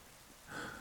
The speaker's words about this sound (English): Oh, and now it started raining. Well, that's British weather for you.